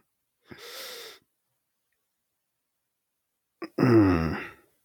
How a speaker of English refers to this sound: Got this internal yawn. Sorry.